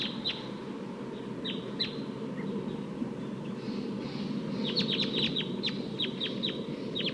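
Sharp, high-pitched alarm calls of wild birds high in a eucalyptus tree ring out in short bursts, first a few scattered notes, then a rapid volley of repeated chips, with a wild bird's flight call, heard over a steady low rumble of background noise.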